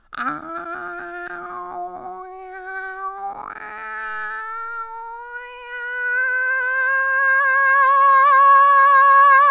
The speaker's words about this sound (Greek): Στη συνέχεια περπάτησα προς τη Δούκισσα και αυτή η πανέμορφη μελωδία άρχισε να γίνεται πάλι ένα άσχημο νιαούρισμα.